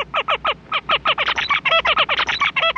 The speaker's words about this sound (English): On the other hand, Clayton says male zebra finches have a very sophisticated song that they have to learn.